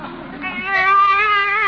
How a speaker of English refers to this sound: A baby! Hey, what are you doing in my car?